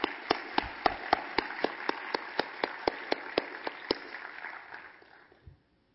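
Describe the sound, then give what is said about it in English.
An audience applauds commissioners and volunteers in a steady wash of clapping, with a few loud, evenly spaced claps standing out in a regular rhythm before the applause thins and dies away after about five seconds. “Somebody, maybe join me in one more round of applause for our commissioners and for all the volunteers.”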